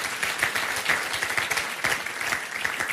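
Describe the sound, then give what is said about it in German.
An audience in Nürnberg applauds steadily, many hands clapping in a dense, continuous patter of crisp claps with no voices, holding an even, moderately loud level throughout, applauding those who joined online. “Können wir jetzt hier in Nürnberg aber einen ganz großen Applaus geben für die, die dazu geschalten haben.”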